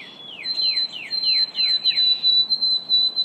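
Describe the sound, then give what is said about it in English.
White-throated sparrow song: a rapid series of about six clear, downward-slurring whistled notes over a thin, steady high whistle, with no voices present. “In Maine, the white-throated sparrow's melody is among those threatened by changes in the climate and by loss of habitat.”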